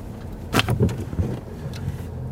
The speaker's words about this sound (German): Mit einem kleinen grünen Auto mit Vierradantrieb fahren wir in das Naturentwicklungsgebiet hinein.